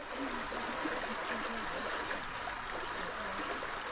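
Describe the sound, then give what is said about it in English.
Steady churning and rushing water from the prop wash of another electric boat ahead on a canal, a continuous hissing swirl with faint gurgles, moderately loud and unbroken throughout, with no voices. “I must just point out, the noise you're hearing is the prop wash from the other electric boat ahead of us.”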